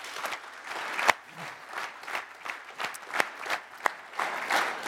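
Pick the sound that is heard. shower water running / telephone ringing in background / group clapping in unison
group clapping in unison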